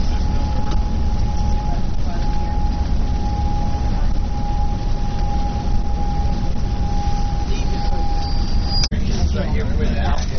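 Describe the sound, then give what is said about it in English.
Steady low engine rumble and road noise inside a moving tour bus coming around a corner near where Allen's Creek runs under the road toward the river, with a constant faint whine throughout, indistinct muffled voices, and a sharp brief knock near the end. “Hey y'all, as we come up here on the on this side of the bus, right, we come around the corner here, you'll see where Allen's Creek runs in underneath the road on its way to the river.”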